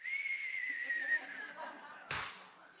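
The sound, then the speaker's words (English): A person whistles the theme tune of the Wile E. Coyote and Road Runner cartoon, a steady, slowly falling tune, broken near the end by a sharp, brief thump before the whistling carries on more faintly. “Whistle it with me.”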